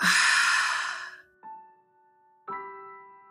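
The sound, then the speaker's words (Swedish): A long, airy breath out through an open mouth after breathing in through the nose and holding the breath, fairly loud, fading after about a second; two soft ringing bell-like tones follow in the quiet. “Hålla andetaget en stund. Och andas ut med öppen mun.”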